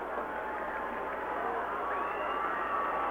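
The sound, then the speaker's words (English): Football fans yell from the stands at a game between the Green Dragons and the Carthage Blue Boys, as the Green Dragons come back on the field for the extra point: a dense, steady roar of many voices that holds at an even, moderately loud level throughout, with no single shout standing out. “The fans, as you can hear, yelling down below us.”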